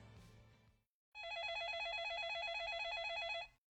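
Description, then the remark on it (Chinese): A telephone rings with an incoming call at 6:23, a steady, warbling electronic trill that holds for a couple of seconds after a brief bit of noise and a pause; loud, with no talking. “6:23，又一通电话打了进来。”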